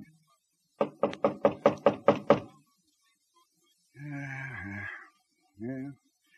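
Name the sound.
knocking on a door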